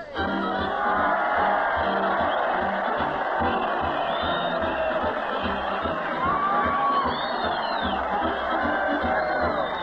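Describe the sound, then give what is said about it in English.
A large crowd cheers Fred Allen as he leads a parade down Main Street to the Old Town Hall, a dense roar of many voices with occasional higher whoops and shouts rising above the steady din throughout. “Crowd cheer Fred Allen as he leads the parade down Main Street to the Old Town Hall.”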